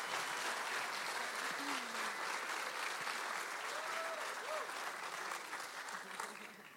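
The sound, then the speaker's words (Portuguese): Sustained applause from a sizable crowd, dense steady clapping throughout, with a few faint voices and cheers rising through it before the clapping gradually eases toward the end. “Dar uma salva de palmas para ela.”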